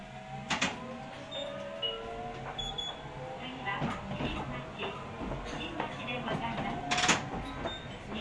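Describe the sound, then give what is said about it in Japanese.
A sliding door whirs and closes with a few sharp clunks inside a rumbling vehicle, while muffled voices carry on in the background. “ドアを閉めます。”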